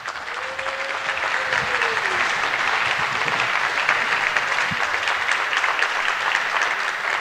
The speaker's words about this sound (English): Give him a welcoming, warm applause.